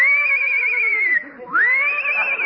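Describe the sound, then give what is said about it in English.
A horse named Citation whinnies loudly as a rider mounts it, a long quavering cry that trails downward, breaks off for a moment, then rises into a second shrill, wavering whinny. “Easy getting up on that horse.”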